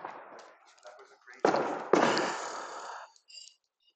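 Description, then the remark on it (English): Two loud fireworks explosions go off in the air on July 3rd, about half a second apart, each a sharp bang followed by a rolling, crackling echo that fades out. Faint murmuring and rustling come before the blasts. “Meanwhile, just listen to the crazy explosions in the air. Happy July 3rd to all you people who hate explosions.”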